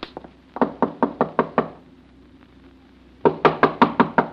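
Sharp knuckle raps on a wooden door: an evenly paced run of about eight knocks, a pause of near silence, then another loud, insistent burst of knocks.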